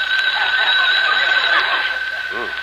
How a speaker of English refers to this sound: Correction. The phone rang.